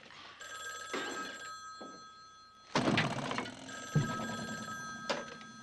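A telephone's bell rings steadily, its bright metallic tone sustained throughout, while a few dull thumps and knocks land around it.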